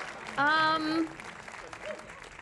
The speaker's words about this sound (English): claps along with the crowd.